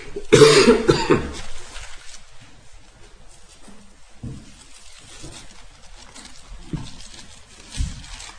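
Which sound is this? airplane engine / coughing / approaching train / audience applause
coughing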